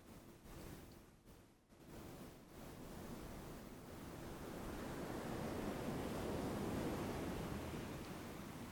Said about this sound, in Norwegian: Fortsett å være i pusten og lyden av bølgene. Slipp nå taket i pusten og lyden av bølgene.